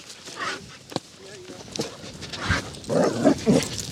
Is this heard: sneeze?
no